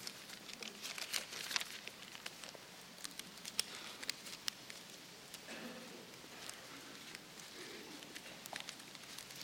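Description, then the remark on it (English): An audience turns the pages of their Bibles at once to find 1 Thessalonians chapter 1, a steady papery rustling dotted with crisp flicks and crinkles, with no one speaking. “Oh, it's fall. I love to hear the rustling of leaves.”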